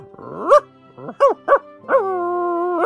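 A small dog yaps: four short, high-pitched barks in quick succession, then a longer, drawn-out whining bark. No one speaks.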